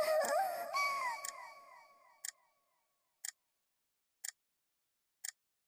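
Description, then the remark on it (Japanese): A clock ticks slowly and evenly, about one sharp tick per second, coming through clearly in the quiet after a fading wavering tone. “もう、すでに時計に侵され始めているようですね。”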